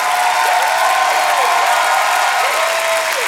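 crowd, audience clapping

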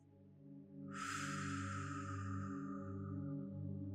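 human body sound, deep calming breaths

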